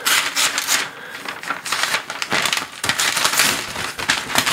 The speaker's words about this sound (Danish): Vi ødelægger papiret her.